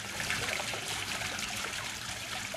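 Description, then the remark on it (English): Steady splashing of water from a fountain on the grounds of Taliesin West in Arizona, falling onto the ground amid dry sagebrush foothills; a continuous patter and trickle with no pauses and no voices. “The sound of water hitting the ground is unusual in the dry sagebrush foothills that surround Taliesin West.”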